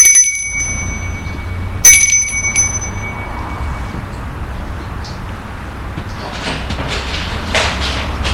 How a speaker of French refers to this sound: Il sonne à la porte de la maison.